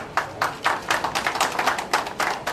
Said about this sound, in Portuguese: As palmas que ouviram assinalaram a entrega e o consequente início da vacinação em Angola, o primeiro país lusófono a receber as doses entregues pela iniciativa COVAX.